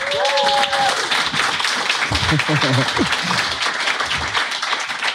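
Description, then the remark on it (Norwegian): An audience at a live event applauds as a guest is welcomed, with steady, dense clapping that fills the whole clip, a few whistles at the start and some voices talking over the applause. “Hadde jeg vært for 25 år siden, så hadde jeg ikke fått applaus.”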